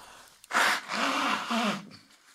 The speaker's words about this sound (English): Hold on, let me blow my nose.